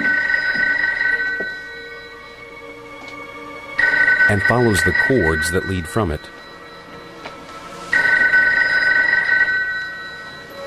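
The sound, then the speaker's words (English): A telephone rings in repeated long bursts, a steady, bright trill that starts, pauses and returns, while a man talks over part of it. “He walks to the phone”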